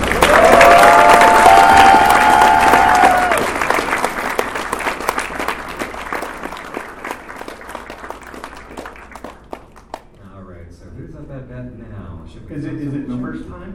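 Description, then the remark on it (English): A crowd bursts into loud, dense applause with a few high whistles and cheers at first; the clapping gradually thins out over several seconds before someone begins speaking. The applause is for the guest of honor. “Another big round of applause for our GOH.”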